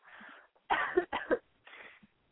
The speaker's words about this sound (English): Oh, I'm laughing. I'm coughing so hard. It's a coughing cutie.